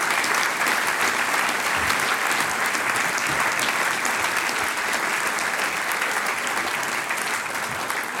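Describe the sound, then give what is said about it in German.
Steady, dense applause from a sizable audience welcoming the town mayor onto the stage of a singers' and musicians' gathering in Weinitzen, many hands clapping at once in a continuous loud wash that holds for several seconds without pause. “Ich begrüße mit einem großen Applaus den Herrn Bürgermeister Josef Neuholz hier bei uns auf der Sängern-Musikanten-Treffen-Bühne”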